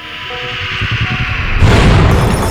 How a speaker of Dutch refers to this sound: Wat was dat? Een explosie? Een meteoriet. Een wat? Een meteoriet.